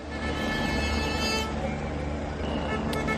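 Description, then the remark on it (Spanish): Steady, loud roar of farmers' tractors protesting on the Nacional 6 highway near Benavente, Zamora, in Castilla y León, Spain, with engine rumble and tonal whine, a horn-like toot sounding briefly, continuous traffic noise throughout, while a Guardia Civil helicopter watches overhead. “Es el momento en el que los agricultores saltaban a la carretera ante la atenta mirada por el aire del helicóptero de la Guardia Civil.”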